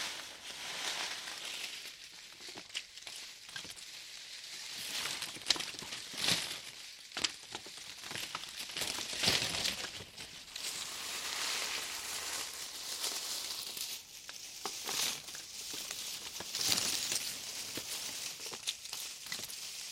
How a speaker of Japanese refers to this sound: 左右からも同時に紙切れを振らせちゃえ。